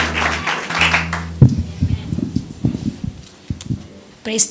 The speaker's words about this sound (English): Let's give a clap of hands and praise to Him.